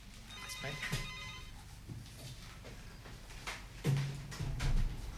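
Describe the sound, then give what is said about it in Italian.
A telephone rings with an incoming listener call to a radio talk show. The bright, warbling electronic tone lasts about a second and a half near the start, then fades as muffled voices and room noise carry on. “E mentre prendiamo la telefonata provo ad andare avanti con il ragionamento.”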